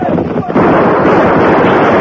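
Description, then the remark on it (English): A loud, dense barrage of gunshots in a gunfight against the masked man bursts in after a brief lull and keeps roaring as a continuous crackling wall of noise, with voices faintly mixed in. “No, don't shoot. Don't shoot. You knocked the guns right out of my head.”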